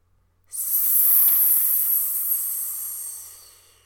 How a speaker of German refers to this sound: Und der Riesenpups, den der Isodrink vor Schreck aus seinem Auspuff rauspurzt, steht natürlich wieder für, ganz genau, CO2, also Kohlenstoffdioxid.